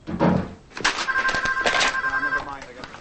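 A telephone rings once with a steady electronic tone lasting over a second, clear, amid a busy background of clatter and indistinct room noise, at a police station, in the sheriff's office.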